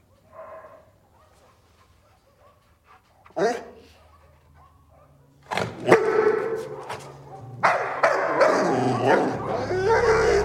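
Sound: dog barking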